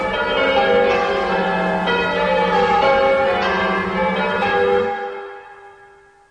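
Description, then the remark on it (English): Eight church bells hanging in a tower peal together loudly in a dense, overlapping clangour, fresh strikes renewing the ringing every second or so before the tones die away into silence near the end. “I never thought I should feel relieved at having the bells silenced, but they really are extremely loud.”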